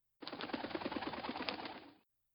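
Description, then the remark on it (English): A bird cooing in a steady, throaty burble of quick repeated notes that runs for about two seconds, then cuts off. No one speaks. “Except you, of course, my dear bird.”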